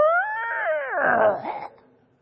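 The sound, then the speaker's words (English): Heavy iron gates creak open with one drawn-out, high metallic squeal that bends downward, turns rough and grinding, then trails off after about two seconds, with no voices. “Maybe the gates were quiet, but for me, when I always picture these big iron gates, this is what I hear.”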